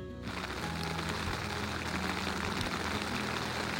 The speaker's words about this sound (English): As you can hear, maybe. Some rain is coming down again. But you know what? When you're inside your tent, it doesn't matter. It's nice to hear the pitter-patter.